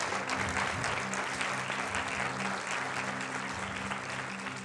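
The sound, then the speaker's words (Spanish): A church audience applauds the Lord, clapping steadily and loudly for several seconds, a dense, continuous wash of many hands with a faint low hum underneath and no one speaking. “Apláudele fuertemente al Señor, porque ese aplauso es para Él.”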